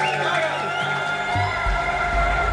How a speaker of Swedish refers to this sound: Kaja Kallas liberala reformparti blir med bred marginal största parti och möttes av jubel från partikamraterna på valvakan i Tallinn.